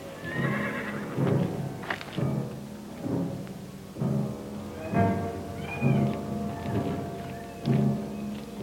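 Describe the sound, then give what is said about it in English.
Horses whinny and snort repeatedly in a scene from the film Gunfight at the OK Corral, with a few sharp hoof clops mixed in. The calls come in short bursts about every second, with no talking. “Cotton, you get over with the horses.”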